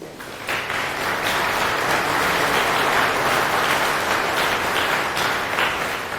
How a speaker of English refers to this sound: A round of applause for Lars, please.